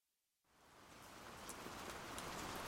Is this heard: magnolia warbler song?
no